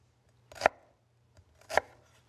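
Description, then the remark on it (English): Two distinct knife chops on a chopping board as a skinned onion is diced, about a second apart, crisp, with a faint low hum in the background and no talking. “And just dice this up as well.”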